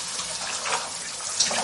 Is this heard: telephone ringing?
no